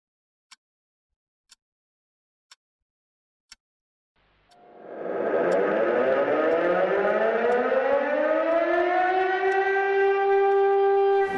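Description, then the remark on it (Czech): Four sharp ticks at one-second intervals, then an ordinary mechanical siren on the shaft of an electric motor, mounted on an iron pipe on the roof of a municipal office, spins up, its rising harmonic wail climbing in pitch and swelling to a loud, steady howl that holds to the end. “Na konci této železné trubky je elektromotor a na hřídeli toho elektromotoru je obyčejná mechanická siréna.”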